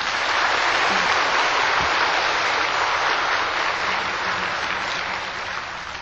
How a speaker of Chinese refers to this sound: 好，我们现在齁以热烈的掌声恭请青海师父为我们开示。